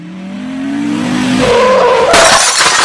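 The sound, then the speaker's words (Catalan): A car's engine whines and its tires skid on snow with a rising squeal, then a sudden loud crash with crunching, shattering debris ends it, with no voices. “Maleïda neu, per culpa d'ella he xocat.”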